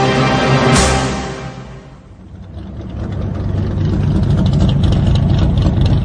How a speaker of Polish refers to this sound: W Northolt samochód podjechał tuż do kadłuba ciemnozielonej Dakoty, stojącej na początku pasa startowego.